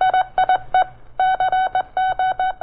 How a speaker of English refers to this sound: Hurriedly, Brick wrote a sentence, coded it, and sent a last message and a sign-off.